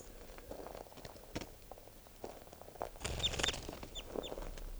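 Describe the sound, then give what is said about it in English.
Sharp, high-pitched calls from captive bird 643, made while it is made to fly and being recorded, chirp in a short burst over a bed of rustling and fluttering noise, with a few scattered clicks and soft thumps around them. “I'm gonna make it fly a little bit and see if I can get calls out of it.”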